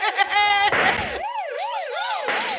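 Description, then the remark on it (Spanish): Several police patrol car sirens wail together as the cars approach, their rising and falling tones overlapping loudly, with a rapid electronic yelp near the start and a low engine rumble underneath before the wailing takes over. “¡Doctor! ¡Se acercan varios carropatrullas!”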